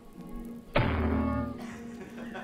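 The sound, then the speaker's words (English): A single loud, heavy bang like a heavy jail cell door slamming shut, striking suddenly out of near silence and followed by a lingering, reverberant ring that slowly fades. No one speaks. “It sounded as if someone was on the opposite side of the jail slamming one of the cell doors repeatedly.”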